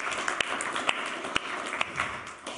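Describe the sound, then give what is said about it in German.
A crowd applauds the music of the worship band, a dense wash of many hands clapping with a few sharper, louder claps standing out, continuous throughout. “Diese Musik, ja, können wir mal fürs Klatschen.”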